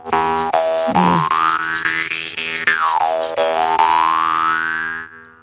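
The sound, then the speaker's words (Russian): A Vietnamese jaw harp twangs a steady buzzing drone while its overtone slowly glides up, then down, then up again, with a faint rhythmic rustle from a ring-shaped mini shaker worn on a finger underneath, ending abruptly after about five seconds. “Это вьетнамский варган.”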